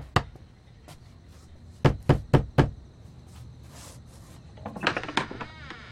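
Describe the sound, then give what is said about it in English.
A single knock, then four quick, firm raps on a door in a steady rhythm, followed by a softer, muffled cluster of knocks or shuffling near the end, with no one speaking. “No, I had to get up to answer the door anyway.”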